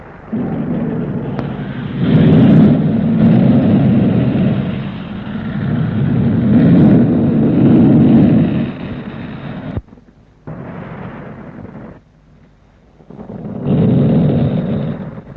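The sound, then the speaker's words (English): Gemini 6 rocket engines roar at lift-off from the launch pad, a loud, sustained low rumble that swells and holds for about ten seconds, breaks off briefly twice, then surges back. No one speaks. “Engine start, and we've got a lift off. There it goes. It's lifting off the launch pad.”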